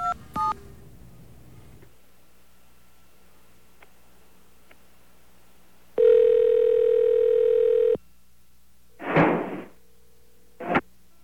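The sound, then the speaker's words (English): A steady dial tone holds for a couple of seconds while calling a Sprint number, then a sharp, heavy bang and a shorter knock come through the phone line, sounding like a door slamming. No one speaks. “That was a door slam if I ever heard one.”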